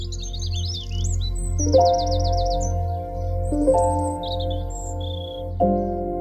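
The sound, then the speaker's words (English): Birds chirp and trill in quick, high, warbling bursts, clear, in an allotment garden with no traffic noise, over a steady low droning hum with a few deeper tonal swells underneath. “What I love is the fact that there's no traffic noise anymore, and you just hear the birds and you're in an entirely different world.”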